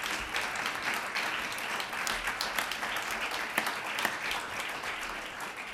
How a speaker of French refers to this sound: que je vous demande encore d'applaudir pour sa présence